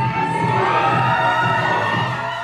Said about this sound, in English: The crowd here at Tennessee Tech is filled with laughs and shrieks of delight.